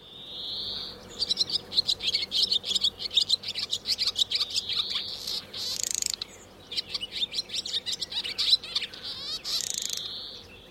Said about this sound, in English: And I started playing the sound of the bird over and over again to her as I was squeezing the bird model. And her eyes just absolutely snapped open after a moment. And she looked up at me and she just smiled like she recognized that sound.